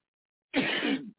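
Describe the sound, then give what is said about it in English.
A single rough throat-clearing cough, fairly loud, lasting about half a second after brief silence, with no talking. “I'm sorry for coughing, you guys.”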